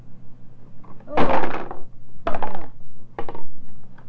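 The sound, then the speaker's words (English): A high tower of toy blocks built by a dad topples: three separate bursts of hard wooden clattering, the first loudest and longest, followed by two shorter tumbling clacks, with no voices. “Daddy's making a tower out of these blocks. It's high. See how high? High. If you push it, it will fall down.”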